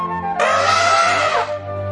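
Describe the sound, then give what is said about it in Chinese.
An elephant at a zoo gives a single loud trumpeting call lasting about a second, harsh and brassy with a slight downward slide at the end, over a faint low hum. “大家快看，这里有一只大象。”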